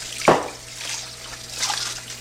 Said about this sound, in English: I'm just getting the water sound. Oh, the water sound.